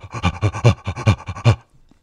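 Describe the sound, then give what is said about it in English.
A man crouches and does rhythmic, guttural, gorilla-like breathing through a tube held like a microphone: about eight quick, loud, gruff panting pulses in a steady beat, then a fade to near silence. “He started doing this sort of rhythmic, guttural, gorilla-esque breathing through the tube.”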